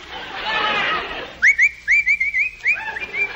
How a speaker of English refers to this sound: What are you whistling for? Nothing. Can't a fellow whistle?